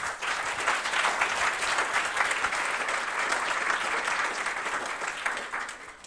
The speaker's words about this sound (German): Ja, dann danke für die kurzen Eindrücke und dann sind wir auch schon bereit für die nächste Gruppe. Applaus nochmal.